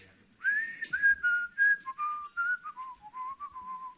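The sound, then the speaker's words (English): A clear whistled melody opening a late-1980s pop hit song, a run of short bright notes stepping gradually downward in a bouncy rhythm, heard alone with no voices. “wrote a little song which began with a whistle.”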